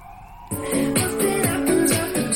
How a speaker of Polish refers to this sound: Mamy otwarte okno i karetki jeżdżą.